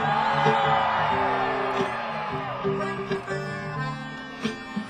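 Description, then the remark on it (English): A large concert audience yells and whoops loudly in a sustained roar during a solo, with individual high shouts rising above the crowd noise while a low, steady musical drone continues underneath. “I just wanted to get you to yell.”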